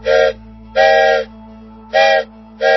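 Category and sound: vehicle, steam train whistle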